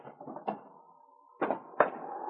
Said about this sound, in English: King found a place beneath the table where the dirt had been disturbed and patted down. He started whimpering and digging. King, I wonder if you found something. Let's have a look. Now stand back, boy. I'll move this table.